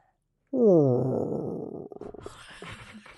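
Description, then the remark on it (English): A deep, gravelly voice lets out one long, low rasping exhale that imitates heavy respirator breathing, loud at first, then thinning into a breathy, crackly hiss. “That was so low. Darth Vader's last breath.”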